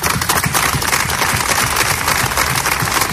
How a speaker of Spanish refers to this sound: Luto en Calahorra que llora la pérdida de dos vecinos. Minuto de silencio y aplausos como este en la plaza del ayuntamiento.